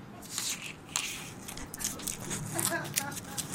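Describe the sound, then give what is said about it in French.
Soft handling of a large, iridescent black eggplant with small leaves at its end: light rubbing, squeaks and small taps on its smooth skin in an irregular rhythm, with faint whispering underneath. “Il est temps de passer aux objets déclencheurs. Moi, j'ai une grosse aubergine.”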